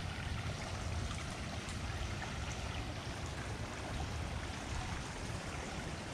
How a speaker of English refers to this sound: Look at that, there's the creek. Definitely don't want to get too close to the edge.